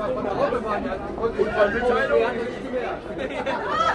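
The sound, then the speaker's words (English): Busy crowd chatter at an outdoor Christmas market on the plaza outside a church on Berlin's Kudamm shopping street, with stalls selling handicrafts, hats, jewelry and gifts; a steady dense babble of many overlapping voices with no single speaker standing out, holding a constant moderate level throughout. “The sounds of the market mix with the smells of mulled wine, bratwurst, roasted chestnuts, and beer, as colorful stalls hawk handicrafts, hats, jewelry, and other gifts.”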